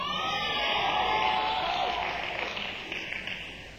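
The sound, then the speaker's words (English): Wedding reception guests in Baltimore clapping in a dense, steady wash of applause that holds strong for a few seconds, then gradually thins and fades, with faint crowd cheering mixed in. “There's some beautiful friends who were clapping right about there.”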